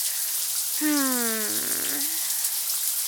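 Steady shower water runs throughout as an even hiss, with a brief falling vocal sound rising over it near the middle and no words spoken.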